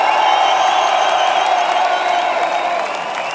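A large concert crowd at the Muffathalle in Munich applauds and cheers for a band, a dense, steady roar of clapping with scattered whoops and shouts that stays loud throughout, easing off slightly at the very end.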